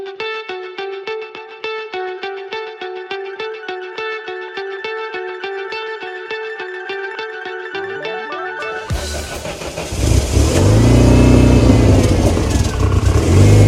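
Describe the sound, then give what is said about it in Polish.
A steady, rhythmic tonal hum pulses for several seconds before a car engine, just taken off a tow truck at the race track in Łódź, Poland, starts and bursts into a loud, roaring rev that stays strong to the end; no one speaks. “Dobra, zdejmujemy auto z lawety i pora odpalić maszynę.”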